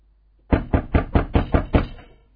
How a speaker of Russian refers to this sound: Раздается стук в дверь. Какой? Такой вот.